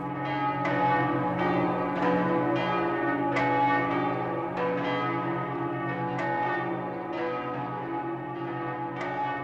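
Church bells peal steadily, with overlapping strikes coming roughly every second and a rich, ringing hum sustained between them. No voices, just the continuous, fairly loud clangor of the bells.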